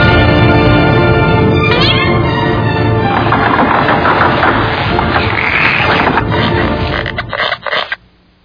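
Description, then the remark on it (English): A cat meows loudly and insistently, its drawn-out cries rising and falling, followed by rougher scratchy yowling that cuts off abruptly near the end. “That's a good cat.”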